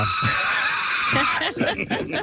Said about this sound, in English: That's him. That is a great scream, and it's from Home Alone, of course. When the tarantula is on his face, he's really good, man.